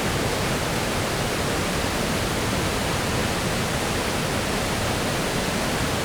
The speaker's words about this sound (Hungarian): Ebből nagyon erős szobrással jön le, hatalmas kövek vannak, és meredeken húzul alá. Körülbelül három méterre állhatunk a mélyben folyó víz fölött.